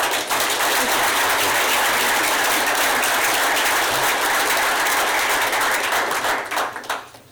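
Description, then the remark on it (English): An audience breaks into loud, sustained applause welcoming two candidates, many hands clapping in a dense, steady wash that holds for several seconds before tapering off at the end. “So please provide a hearty welcome for the two candidates.”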